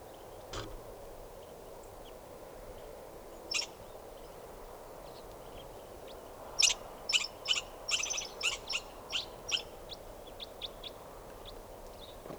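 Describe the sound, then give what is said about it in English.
Several Type 4 birds perched in a tree give short, sharp, high-pitched calls, a few scattered early, then a rapid cluster of repeated chip notes over a steady low background hum. No one speaks. “Type 4 birds are all calling now, just perched in the tree, they're going to take off.”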